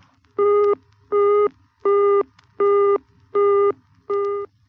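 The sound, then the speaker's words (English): A telephone engaged tone beeps six times in a steady on-off rhythm, each tone about a third of a second with equal gaps, with no voices. “If you get the engaged signal,”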